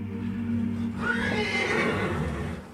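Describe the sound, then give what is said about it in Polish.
A horse neighs loudly, a long shrill whinny that rises and wavers for about two seconds over a low steady background hum, with no voices. “Choć pokaże się dziś na hucule, Araby zaprzątają jego uwagę.”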